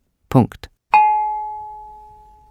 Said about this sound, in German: Allerdings werde der traditionelle Gong weiterhin von Hand geschlagen.